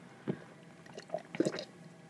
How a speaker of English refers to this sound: They can probably hear me drinking.